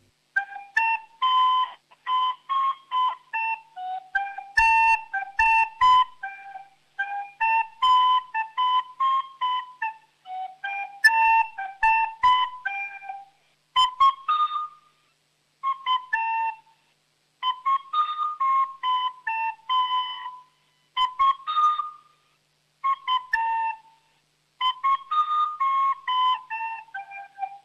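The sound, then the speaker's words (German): A solo recorder plays a bright, simple round dance melody, moving through short repeated phrases with brief pauses between them, steady and fairly loud throughout. “du hast wirklich schön Flöte gespielt, muss man wirklich sagen.”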